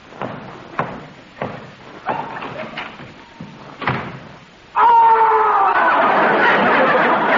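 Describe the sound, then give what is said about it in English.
A string of heavy thuds and knocks, then an abrupt, loud, sustained cry of pain whose pitch slides gradually downward, as a hammer is dropped on a high school principal's foot. “I'm sorry I dropped the hammer on your foot”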